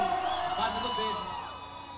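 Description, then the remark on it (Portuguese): A crowd at a bloco street party screams and whoops together in a dense, sustained burst of overlapping high voices, loud at first, then gradually tapering off over about two seconds. “Cê, quem tá gostando dá um gritinho.”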